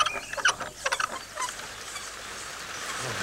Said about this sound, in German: Guck mal, jetzt ist Moppy sogar unter der Pumpe eingeschlafen. Pass auf. Gleich regnet es. So, ist doch keine einzige Wolke zu sehen. Nicht so laut. Es gibt ja auch nur einen klitzekleinen Platzregen auf Moppys Kopf.